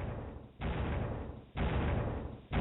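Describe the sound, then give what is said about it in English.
Loud, heavy footsteps of a giant thud in a slow, steady rhythm, each a deep booming impact with a rumbling tail, spaced about a second apart. No voices are heard. “Suddenly, there were loud footsteps.”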